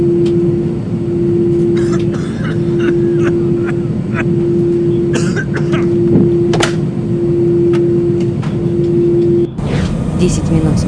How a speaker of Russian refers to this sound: Самолет катится по взлетной полосе. Как мне нравится летать в самолете, слушать приятные звуки двигателей.